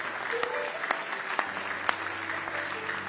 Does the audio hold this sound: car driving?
no